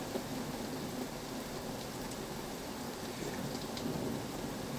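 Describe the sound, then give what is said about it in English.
Steady, dense rainfall pours down throughout a severe thunderstorm, with a low rumbling undertone like thunder rolling beneath the hiss. No one speaks. “Well, about an hour ago it did say severe thunderstorms.”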